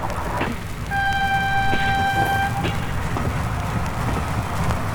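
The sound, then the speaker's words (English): A train rumbles steadily as it pulls into a station in Canandaigua, with a single sustained horn or whistle tone lasting a couple of seconds over the heavy low clatter. “As the train pulled into the station, King looked for the man on the platform sent to help him.”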